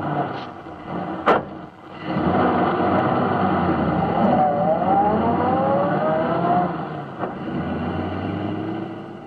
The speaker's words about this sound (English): Yesterday in radio, a moving automobile sounded like this. But today, by using a recording of a moving automobile, it sounded thusly.